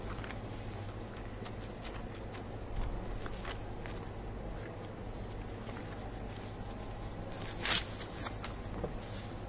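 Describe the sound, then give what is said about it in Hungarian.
Many Bible pages rustle and flip at once as people turn to Proverbs chapter 3, with scattered soft papery crackles over a steady low hum and one sharper, louder flip near the end. “Kicsit ez elbizakodottnak tűnik, de és adjatok 3 percet még nekem, és ezt a gondolatot befejezem, de lapozzunk példabeszédek 3-hoz.”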